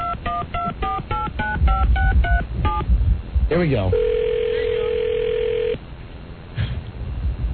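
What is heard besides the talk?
phone keypad dialing tones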